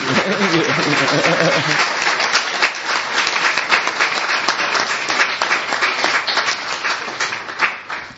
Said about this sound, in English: So I want you to give a full applause to our scientist and our friend. Bravo!